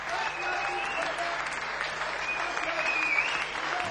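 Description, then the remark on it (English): Steady audience applause for the performer Pee Wee Allen fills the whole stretch, a dense, even wash of clapping from many hands at a fairly loud level, with a faint whistle-like tone riding over it briefly. “Ladies and gentlemen, please give it up for the one and only Pee Wee Allen!”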